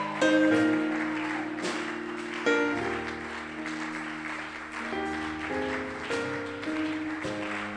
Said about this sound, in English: Don't stop clapping. Because the revival must not be quenched.